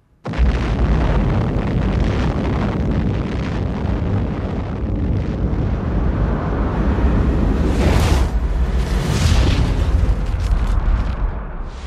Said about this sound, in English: We have evidence that within recent weeks, an atomic explosion occurred in the USSR.